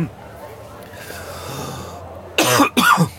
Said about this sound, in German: Ich glaube, ich muss schon husten, weil so viel geraucht wird in der Bar.